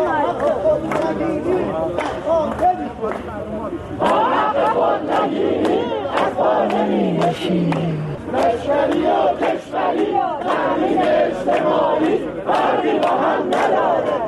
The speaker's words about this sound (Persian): تجمع کنندگان در اصفهان شعارهایی دادند که با هم می‌شنویم.